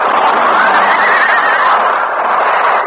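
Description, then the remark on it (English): A lead horse, wounded by bullets in an outlaws' attack, whinnies loudly and shrilly in a wavering, drawn-out cry lasting about three seconds, over a dense wash of clattering, rumbling noise as the other horses pile up and the stagecoach overturns. “Bullets wounded the fourth guard and one of the lead horses on the coach. As the wounded animal fell, the other horses piled up, and the stagecoach careening turned over.”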